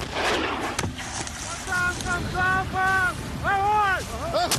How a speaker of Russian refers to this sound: Гармата заряжена! Выстрел!